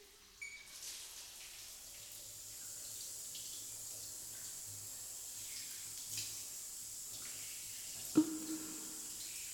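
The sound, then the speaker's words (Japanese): Steady water pours and hisses continuously from a shower being turned on for a seated person, with a brief knock or clatter near the end and no voices. “今、シャワーを出しますね。”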